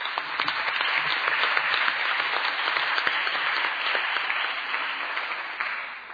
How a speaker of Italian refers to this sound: Vedo che ci ha raggiunto anche il delegato della comunità senegalese, il signor Ibrahim Boup, che saluto con un applauso.